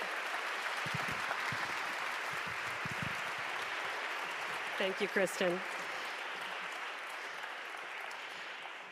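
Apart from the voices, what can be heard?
audience round of applause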